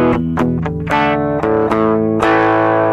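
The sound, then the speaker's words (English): An electric guitar, a Les Paul Custom plugged in direct rather than through an amp, plays a short riff of chords and picked notes with mild overdrive, giving a gritty edge without heavy distortion, loud with sustained ringing tones. “It's not too distorted, especially when you're playing through an amp.”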